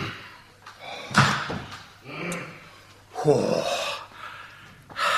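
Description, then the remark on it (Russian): A laboratory door is pushed firmly shut with a solid thud, followed a couple of seconds later by a second heavy knock, amid shuffling movement and faint muffled voices. “Дверь в лабораторию закроем поплотней.”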